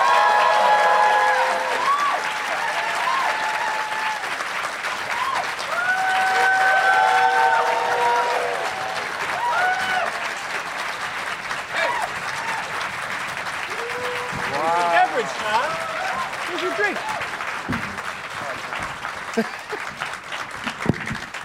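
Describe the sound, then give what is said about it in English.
A crowd applauds steadily for about twenty seconds as guests Chris Gethard, Deanne Smith, Ron Bennington, Chad Daniels and Todd Glass are brought out at a comedy show, a dense wash of clapping mixed with whoops and cheers, with scattered voices calling out and rising shouts in the later part. “Let's get them out here. Please give it up for Chris Gethard, Deanne Smith, Ron Bennington, Chad Daniels, and Todd Glass.”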